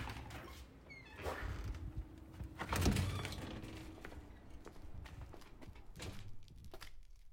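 Cars rumble over a cobblestone street, a gritty, bumpy roar with one vehicle swelling louder as it passes before fading back into the steady street noise.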